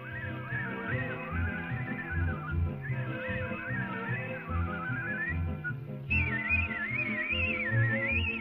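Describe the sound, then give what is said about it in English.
A male whistler carries a fluttering, ornamented melody that seems to sound more than one note at once, riding loud and steady over a busy instrumental accompaniment, with a higher, brighter phrase near the end. “That's like he's whistling multiple notes at one time.”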